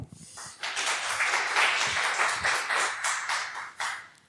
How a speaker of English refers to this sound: So please welcome with a very warm applause,